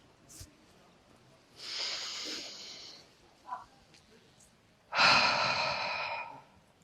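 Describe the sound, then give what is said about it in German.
Airy breathing during a guided breathing exercise: one long, deep breath drawn in through the nose down into the belly, a short pause, then a second, louder and longer breath, with no talking in between. “wenn ihr Lust habt, dann atmet mit mir gemeinsam mal ganz tief durch die Nase ein bis in den Bauch.”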